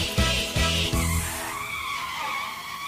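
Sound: car driving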